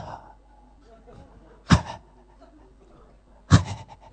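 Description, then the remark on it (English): A voice imitates a big dog's heavy breathing: two loud, breathy huffs about two seconds apart, with a quiet low murmur in between. “And suddenly I hear a noise. Und dann höre ich ein Geräusch. Like Bernd's big dog.”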